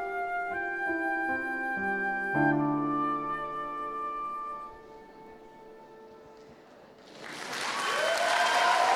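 A Polish song's final held notes ring out and fade, then audience applause for the two women performers bursts in for the last couple of seconds, loud and dense with steady clapping.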